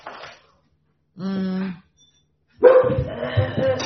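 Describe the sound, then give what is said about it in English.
A dog gives one drawn-out, tonal bark between short stretches of quiet, followed by a louder, busier burst of sound with people talking. “Gosh, this dog.”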